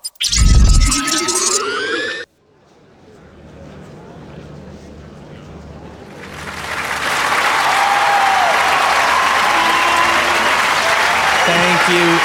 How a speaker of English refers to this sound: Thank you again from the bottom of my extremely humble heart. I do love hearing that applause.